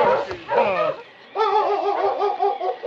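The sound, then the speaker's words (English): A harnessed team dog on a trail in a blizzard barks and whines in two loud bursts at two snow-covered mounds beside the trail: a short yelping cry, a brief pause, then a longer run of rapid, whining barks. “King was barking at two mounds of white at the side of the trail.”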